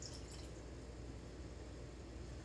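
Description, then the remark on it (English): One-third cup of water is poured steadily into a pot, making a soft, continuous splashing trickle that lasts a couple of seconds, fairly quiet with no one talking. “1/3 cup of water.”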